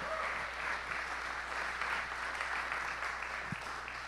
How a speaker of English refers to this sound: I mean, yeah, it's okay. You can clap.